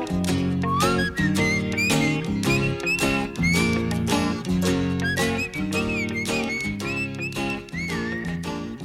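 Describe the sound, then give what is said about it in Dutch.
Someone whistles a wavering, melodic line along with a full band playing a bouncy pop song, the whistled tune riding clearly above guitars and a steady beat. “Ik zat het tegenover me helemaal mee te fluiten.”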